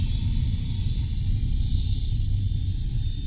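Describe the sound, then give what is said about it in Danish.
A steady, continuous hiss of coolant evaporating from a hole in a pipe of a newly installed submarine air-conditioning system, constant throughout, with a low rumbling undertone and no voices. “Men allerede efter 4 dage går der hul på et af rørene i det nyinstallerede airconditioning-anlæg. Kølervæsken i systemet fordamper.”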